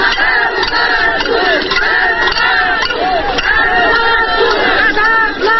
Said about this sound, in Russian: Еще недавно такие возгласы раздавались на улицах Вятских Полян. Тысячи рабочих машиностроительного завода «Молот» выходили на митинги, пикеты и марши пустых кастрюль.